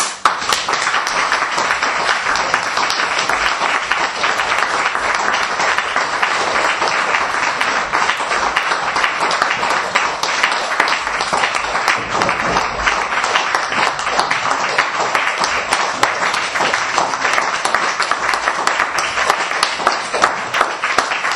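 Sustained audience applause for a professor after his talk, a dense steady wash of many hands clapping that holds at an even, fairly loud level throughout, with no voices standing out.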